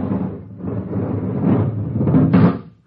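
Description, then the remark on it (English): A car door is opened, with a few seconds of rattling, scraping handling noise that ends in a sharper clunk. No one speaks. “Open the car door.”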